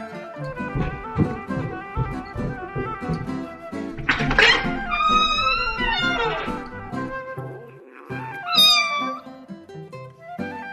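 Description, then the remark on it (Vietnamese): A tabby cat meows several times as it comes into a room carrying a newborn kitten in its mouth, with two loud, drawn-out cries standing out around the middle and near the end, over a steady, busy background. No one speaks. “Con mướp bước vào phòng, cái đuôi thẳng đứng, miệng tha một con mèo con mới đẻ chưa mở mắt.”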